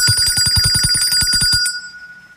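A bright electronic bell ringtone, a reminder to drink water in an Arçelik water purification systems segment, rings in a rapid, even series of about a dozen strikes for roughly a second and a half, then its ringing tone fades out. No voices.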